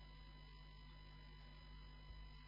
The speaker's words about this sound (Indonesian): Mas, bisa dimatiin AC.